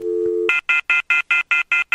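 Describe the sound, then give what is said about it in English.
A phone rings with an incoming call from a caller calling back, an electronic tone: a brief steady low hum, then a rapid, evenly spaced run of about eight bright, high-pitched beeps, loud and clear with no one talking. “He's already calling back.”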